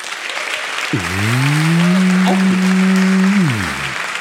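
An audience applauds steadily throughout, while a long, low mooing tone sounds over the clapping for about two and a half seconds before sliding down and fading out.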